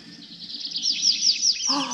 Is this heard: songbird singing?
yes